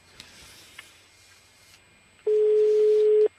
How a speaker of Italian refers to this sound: Ci parli lei, numero di Bossi, privato. Se risponde. Secondo squillo.